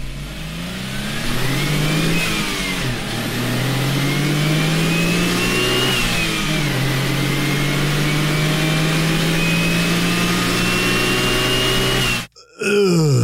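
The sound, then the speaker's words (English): The Suzuki-built 657cc dual overhead cam turbocharged three-cylinder engine of an Autozam AZ-1 car revs loudly, pitch climbing and falling through several pulls before cutting off abruptly near the end; no one speaks. “AutoZam AZ1 was powered by a Suzuki-built 657cc dual overhead cam turbo triple, that's a three-cylinder baby, that is unironically one of the best-sounding engines you've never heard.”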